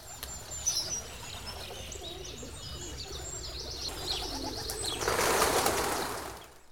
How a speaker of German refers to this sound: Aber was wäre nur ein Frühlingsmorgen ohne Vogelgezwitscher?